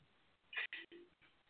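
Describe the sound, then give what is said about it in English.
Two short electronic beeps from a phone keypad sound in quick succession, fairly loud, with quiet background noise before and after, as someone dials to make a phone call. “Matter of fact, let me get Kevin on the phone.”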